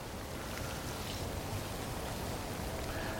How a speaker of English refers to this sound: Very peaceful here, isn't it? Yeah, just starting to rain again.